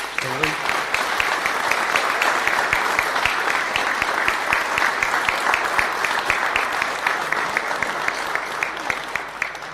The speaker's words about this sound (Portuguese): vamos aproveitar para festejar o sucesso de muito trabalho, criatividade e capacidade de todos, a capacidade de todos os colaboradores, para quem vos peço uma salva de palmas aos meus colaboradores.